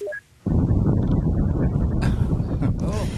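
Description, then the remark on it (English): A few brief high beeps, then a steady, heavy roar of wind gusting through a winter storm, rumbling and blustery with a harsher hiss surging in toward the end. “It's nature's wind.”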